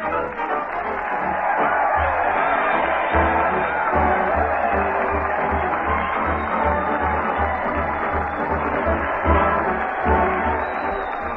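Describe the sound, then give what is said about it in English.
On Town Hall Tonight, a loud, steady roar of crowd noise with cheering voices for Fred Allen as he leads the parade and band down Main Street to the old town hall, sustained and dense throughout, with a rhythmic low thumping underneath like a marching drum. “Crowd cheer Fred Allen as he leads the parade down Main Street to the old town hall.”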